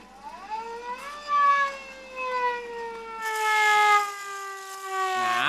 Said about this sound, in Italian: A New York le sirene sono diverse. Signor De Pero, una sirena è una sirena. Non è vero. Posso suonarla più forte? Non è una questione di volume, ma di timbro.